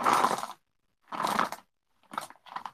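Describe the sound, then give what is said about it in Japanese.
Small shijimi clams are dropped into a pot of miso soup in four clattering, rattling bursts, two longer pours followed by two shorter ones, with silence between them and no voices. “しじみを入れます”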